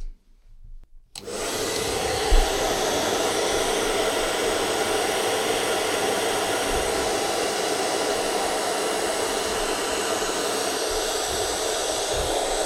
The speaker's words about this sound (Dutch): Dus als je een hete föhn dan op de kaarsvet zet... en dan kan je het zeg maar voorzichtig met een doek zo eraf halen. En dan heb je geen restjes.